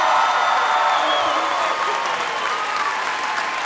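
Steady, loud applause from a studio audience fills the whole clip, dense clapping mixed with some cheering and whoops, sustained without a break.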